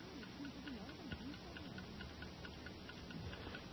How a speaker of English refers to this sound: What? The watch? It's ticking. No, it's impossible.